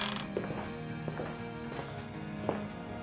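A door creaks open slowly, its groan broken by a few irregular clicks and knocks over about three seconds, with no voices.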